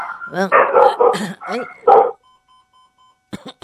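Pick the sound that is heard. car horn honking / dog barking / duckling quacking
dog barking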